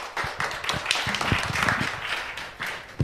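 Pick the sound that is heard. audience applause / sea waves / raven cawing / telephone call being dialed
audience applause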